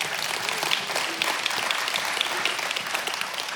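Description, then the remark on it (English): An audience applauds steadily, many hands clapping in a dense, even wash of sharp bright claps that holds its level throughout, with no voices heard. “So, yeah, you can clap for that.”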